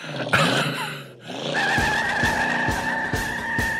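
A brand new red Mustang pulls out of Jerry Lewis's driveway with its tires squealing loudly: a sustained high screech over a revving engine that throbs in steady pulses, with no voices.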